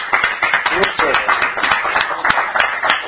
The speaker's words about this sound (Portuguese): Alguén quere dicir algo? Pois se non temos que volver a dar outro aplauso, Muchas gracias.